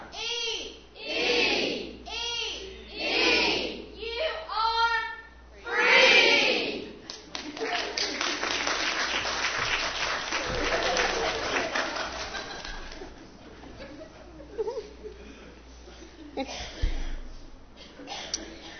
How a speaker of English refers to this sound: Well, on that note of having fun, I want everybody to stand up, please. I never was a cheerleader in school. I played sports. But apparently, I should have been a cheerleader because I love to cheer. So we're going to perform a cheer.